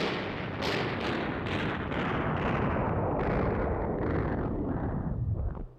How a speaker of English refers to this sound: I say, we surrender. We give up. Stop all that dreadful shooting, old man. All right, wait a minute. Let me kill the sound effect here.